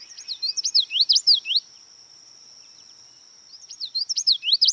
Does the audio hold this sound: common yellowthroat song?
yes